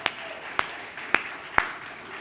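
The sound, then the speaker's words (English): Four slow, evenly spaced hand claps, sharp and fairly quiet, with no voices, like a lone person starting to clap over low background hiss, during a Sunday worship service in a rented church facility. “Somebody started clapping.”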